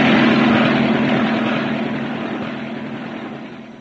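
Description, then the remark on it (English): A propeller aircraft's engine drones loudly with a steady low hum and broad rushing noise, gradually easing off as the plane comes down to land. No voices. “Good thing, too, the landing was terribly uncomfortable.”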